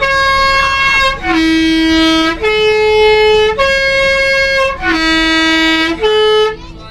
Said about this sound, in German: Zeit und drückt vor der nächsten engen Kurve zünftig aufs Horn.